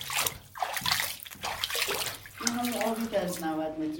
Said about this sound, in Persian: این دقیقا همون آبیه که از 90 متری پمپاژ میشه میاد بالا. به خاطر همین بود که رطوبت خیلی بیشتر شده بود تا ما به این چاه رسیدیم.